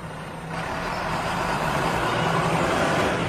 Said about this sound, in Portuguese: Ah, aqui tá na hora. Aqui tá bem na hora. Hoje pontual. Até uns minutinhos adiantado, né? Mas o que conta é que passe. E o pessoal tá esperando, sempre de olho. Então tá aí, ó. Bom fim de semana pra todo mundo. Tá passando ônibus, gurizada. Avisa aí.